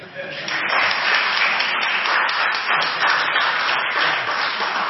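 A crowd breaks into applause, many hands clapping in a dense, steady wash that holds at a fairly loud level for several seconds without fading.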